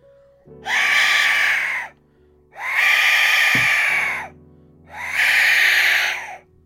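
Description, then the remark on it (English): An Aztec death whistle blown three times, each blast a loud, harsh, screaming shriek lasting over a second, separated by brief pauses, alone with no talking. “Right, here's the Aztec death whistle.”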